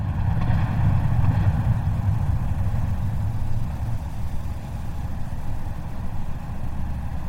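Underwater hydrophone recording of an Arctic icebreaker 12 kilometres away: a dense, low rumbling drone threaded with rapid hammering pulses, steady and loud throughout with no voices.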